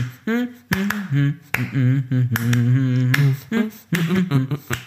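Sharp hand claps tap out an uneven, syncopated tango rhythm, fairly loud, while a voice hums or sings a sustained melody along with them.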